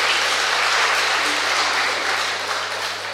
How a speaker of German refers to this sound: Sie dürfen klatschen, es wollte gerade jemand klatschen.